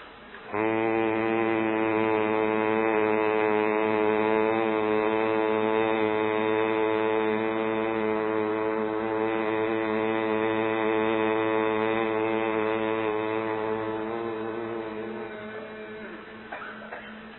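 One long closed-mouth hum on a steady low pitch, a pranayama breathing exercise made while exhaling through the nose after a deep breath, sustained as a single breath for about fifteen seconds before slowly fading out; no one speaks.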